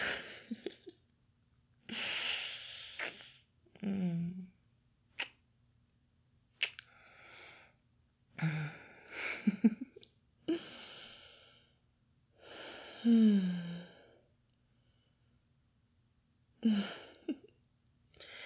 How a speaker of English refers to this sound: You okay? You're still breathing a little hard.